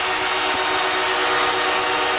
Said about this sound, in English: Guy was working the buzzer, wasn't he? That was crazy.